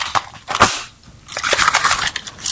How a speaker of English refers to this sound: But before that, I thought, why not? Let's crack a cracker. What do you reckon? Do you want to crack a cracker?